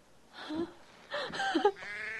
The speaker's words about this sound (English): Well, hello, sheep.